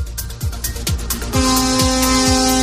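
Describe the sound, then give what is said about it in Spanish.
A loud, steady truck air horn blasts continuously from aboard one of more than a hundred trucks in a convoy from Oviedo, driving on the Y motorway toward Avilés, over rumbling traffic noise, with rhythmic thuds of wheels passing road joints underneath. No one speaks. “Ya oís las bocinas, estamos circulando por la autopista Y, más de un centenar salían de Oviedo.”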